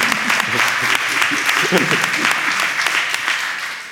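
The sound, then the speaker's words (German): A crowd applauds steadily, a dense wash of clapping with scattered sharper claps throughout, fairly loud and sustained, with faint voices and murmurs mixed underneath. “Ey, Applaus für Souverän.”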